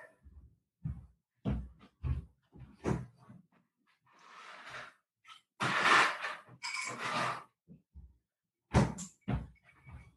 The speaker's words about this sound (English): Oh, door again.